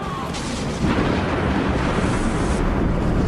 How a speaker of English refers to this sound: So the lightning crash you heard was the fist of God drawing a close to the end of our Soul Surfer conversation